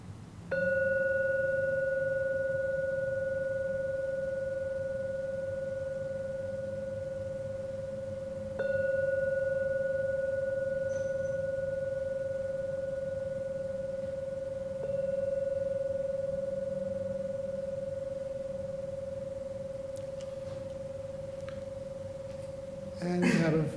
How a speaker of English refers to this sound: And now ring the gong 3 times. Just savor every sound of the gong. And only add the third ringing of the gong, only then open your eyes to come out of the meditation of the third ringing of the gong.